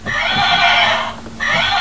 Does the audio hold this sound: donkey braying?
yes